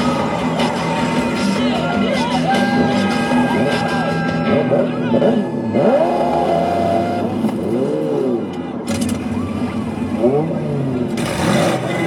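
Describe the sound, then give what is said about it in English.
Several loud car engines rev and accelerate, their pitch repeatedly swooping up and down as vehicles pass by, over a steady rumble and an indistinct murmur of voices. “There's something really weird about listening to louder engine noises in your car.”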